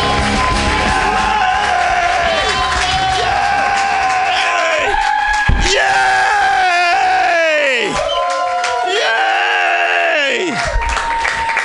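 A comedy show crowd applauds and cheers loudly and continuously for the first headliner of the night, with whoops and yells rising over steady clapping that fills the whole stretch without a break.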